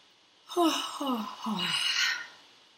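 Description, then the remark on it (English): A deep, audible breath taken during a guided relaxation, lasting about two seconds: a few short, falling, voiced catches followed by a longer airy rush of air, moderately loud and with no talking over it. “So take a deep breath here.”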